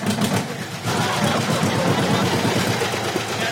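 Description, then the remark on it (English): A restored 1952 John Deere tractor engine idles, a steady low chugging with a rapid, even rhythm that runs throughout and picks up slightly in loudness after the first second. “He's also excited to show off his beautifully restored 1952 John Deere tractor.”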